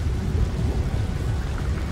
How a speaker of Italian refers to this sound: Controlla la tempesta.